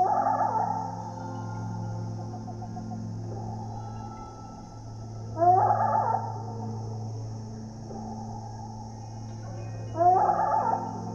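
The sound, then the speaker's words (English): Slowed-down hummingbird song, a whole song squeezed into a chirp, in a forest: eerie, warbling tonal sweeps, almost whale-like, arriving in three bursts roughly five seconds apart over a steady low drone, with no one talking. “But slow it down, and there's more than meets the ear.”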